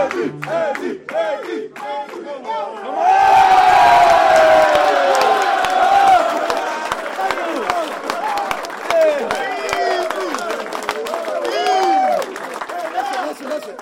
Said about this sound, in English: The Kansas City Chiefs are headed to 7-0. And listen to the best crowd in the National Football League.